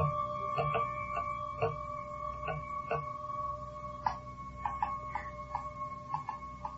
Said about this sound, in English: I wonder if it can tap with a beat. Now, let's try. Just once, okay?